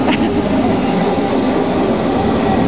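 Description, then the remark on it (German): An S-Bahn commuter train, the :50 service, rumbles loudly and steadily as it pulls into a station platform on a windy autumn day, a dense low roar with a brief higher-pitched squeal near the start and no voices. “Da kommt die S-Bahn um 50.”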